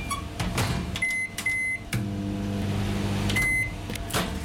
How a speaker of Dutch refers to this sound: De magnetron.